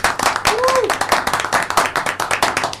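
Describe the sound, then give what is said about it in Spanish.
An audience in a studio claps steadily to welcome a guest being introduced, a dense, crackling wash of many hands at an even loud level, with a brief rising-then-falling whoop or whistle early on. “¡Un aplauso!”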